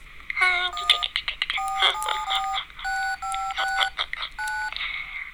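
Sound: telephone number being dialed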